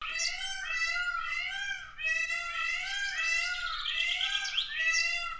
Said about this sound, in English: Bird. Yeah. A peacock, Richard. Oh, yeah. I thought it sounded familiar.